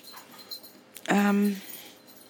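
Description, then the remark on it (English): A single loud bark from Elkie the dog, a sharp, drawn-out woof lasting about half a second against quiet background rustling. “So I'm going to go now, and I enjoyed Elkie barking, and I shall speak to you soon.”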